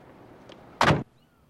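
vehicle, car door shutting

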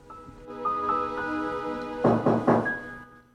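household object, knock

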